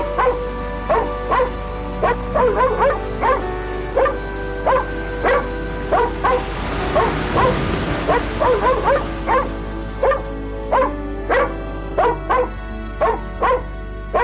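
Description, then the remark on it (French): A dog barks and yips in a steady, rapid series of sharp barks, with a brief pause near the middle before the barking resumes. “Et elle laisse le chien la suivre.”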